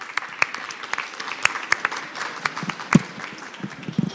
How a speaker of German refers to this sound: Deswegen an dieser Stelle bitte einmal Dankeschön und einen kleinen Applaus für meine Frau.